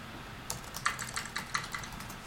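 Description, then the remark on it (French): Keys clatter on a computer keyboard as someone types in a text chat, in an irregular burst of about a dozen crisp clicks, moderately quiet, with no voices present. “Donc, on discute par texte. Donc, on tape sur le clavier et lui me répond à la fois sur le clavier.”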